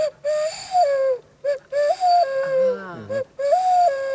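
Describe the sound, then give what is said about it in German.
An imitated stock dove call, used to lure a fox, a series of about four wheezy, drawn-out cooing notes that rise and fall in pitch, fairly loud with short pauses between them and no talking. “Ja, da macht man eine Hohltaube nach.”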